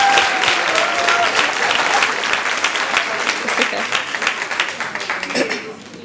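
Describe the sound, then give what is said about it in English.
An audience applauds loudly for a volunteer, dense clapping for several seconds before tapering off toward the end. “Can we have another round of applause for my...”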